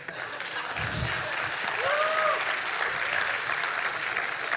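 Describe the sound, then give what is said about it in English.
An audience claps steadily for the whole stretch as a pastor mentions retiring, a dense, even wash of many hands, with a brief low-pitched vocal tone rising above it partway through. “And when I say I'm retiring, if you clap, what does that mean?”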